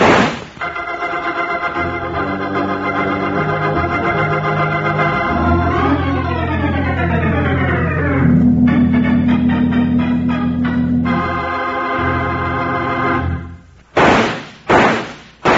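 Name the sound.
three gunshots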